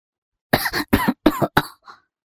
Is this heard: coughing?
yes